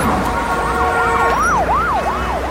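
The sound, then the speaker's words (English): A police car siren wails in a fast, repeating yelp, rising and falling about three times a second. It is loud over a low rumble of street traffic, where four police cars and over ten police officers have stopped a man. “1, 2, 3, 4 police cars, and I've just been told by one of the policemen, there's an undercover police car, and they've just stopped this man here, and we've got over 10 policemen for this one man.”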